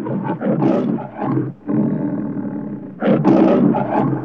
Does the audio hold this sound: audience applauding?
no